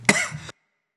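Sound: coughing and throat clearing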